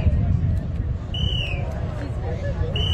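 signal or alarm, whistles directing balloon crews

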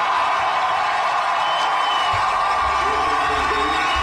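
crowd, crowd cheering

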